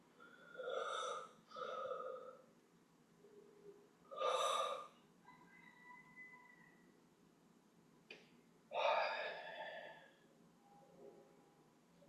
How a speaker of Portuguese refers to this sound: Hoje vamos meditar. Fazendo uma respiração profunda, espreguiçando.